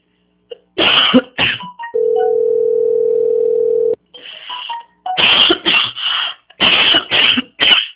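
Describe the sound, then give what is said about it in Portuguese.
Several harsh allergic coughs come in quick bursts, interrupted by a steady two-second phone tone, then more rapid coughing fits follow. No one speaks. “Eu tô com uma tosse alérgica horrível.”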